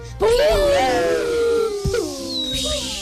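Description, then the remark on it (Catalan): Voices, asked to show how fireworks sound, imitate fireworks: long, falling whistle-like wails that glide downward over about three seconds, broken by a sharp pop partway through, then a brief high whistle near the end. “Per exemple, ens heu de dir com sona un foc artificial.”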